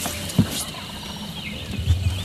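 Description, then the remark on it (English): A turkey, Mr. Walt, which cannot hear well, gives two short, low grunts, one early and one near the end, over a steady background hiss with no talking. “Now, like I said, he can't hear it all, but he grunts a lot.”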